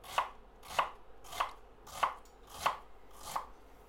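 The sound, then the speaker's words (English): A knife chops lengthways through an onion on a cutting board with a claw technique, cutting quite thick for a fine dice: six crisp, evenly spaced strikes at a slow steady rhythm, each a short sharp knock with no voices. “So you just want to firmly and with a nice sort of claw technique, just chop lengthways like that.”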